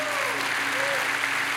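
A large crowd claps steadily for the Lord in a dense, continuous wash of applause, fairly loud and sustained with no pauses, a faint tonal hum beneath it.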